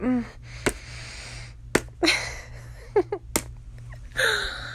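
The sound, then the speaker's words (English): Three sharp, loud slaps of a hand against a penis, spaced irregularly, with breathy vocal sounds and soft gasps between them over a low steady hum. “You like it when I slap your cock.”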